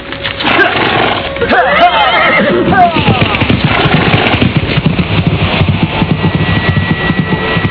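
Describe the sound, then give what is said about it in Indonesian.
A horse whinnies loudly as a girl jumps onto it, its shrill neigh sliding downward in pitch, followed by rough snorting and restless movement against a dense, noisy background. “Dan setelah menyimpan kembali Pangracut Sukma, gadis itu melompat ke atas kuda.”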